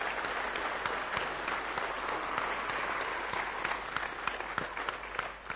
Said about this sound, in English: So I think perhaps a round of applause for you and all the hackers is appropriate for that.